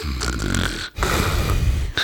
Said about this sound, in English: It's really just me. I'm sorry. It's just me recording you snoring.